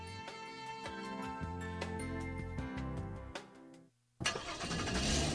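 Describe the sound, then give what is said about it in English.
A car engine cranks and turns over with a steady mechanical drone, cuts out briefly, then roars to life loud, with no voices present. “You're cruising in that super clean ride you've always wanted.”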